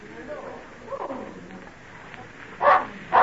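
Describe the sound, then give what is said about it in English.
A dog named Badger barks twice, two loud, sharp barks about half a second apart, following a stretch of quieter murmuring background sound. “I've not heard Badger bark like that before.”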